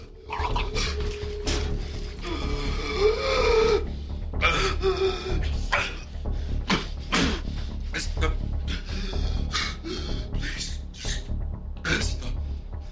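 A man gasps and heaves for breath in ragged, rapid bursts, loud, with splashing water and sharp wheezing intakes repeating through the whole stretch, as he is pulled out of a bath after his head was held underwater during torture.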